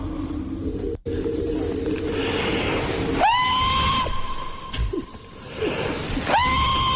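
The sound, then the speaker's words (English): A man, a Bigfoot expert, lets out a long, loud, sustained whooping scream, a Bigfoot-style call, in the woods in the middle of the night, then starts a second one, both rising sharply before holding a steady pitch over constant outdoor background noise. “Yeah, these guys doing Bigfoot calls in the woods.”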